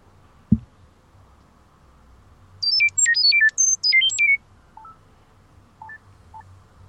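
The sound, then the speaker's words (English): A phone app sends data as sound: a quick burst of high, warbling electronic tones hops rapidly between pitches for about two seconds, followed by a few faint short bleeps over low background hum. “So fire up your Chirp and start listening.”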